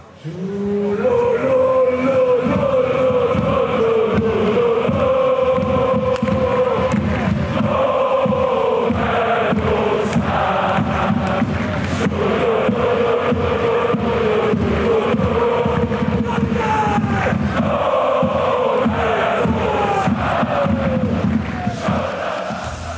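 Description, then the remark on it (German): A large crowd packed into the railway station in Lucerne cheers and chants loudly and continuously as it welcomes the FC Luzern football players, a dense roar of many voices with rising shouts and sung tones, lasting over twenty seconds. “Und am Bahnhof sind die Spieler vom FC Luzern nachher heldenhaft empfangen worden. Ebrock, total gesperrt gewesen, volle Leute.”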